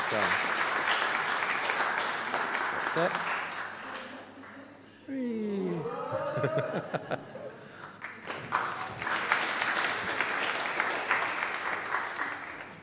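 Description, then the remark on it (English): A crowd bursts into sustained applause, dense steady clapping that eases briefly in the middle, where rising and falling whoops and cheers come through, before the clapping swells again just as strongly. “Let's give you another clap and go back to Mum.”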